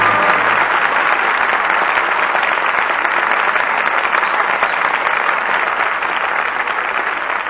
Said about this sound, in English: But your applause for tonight's performance calls our stars back to the footlights. And here are Norma Shearer, Walter Pigeon, and Adolphe Monjou.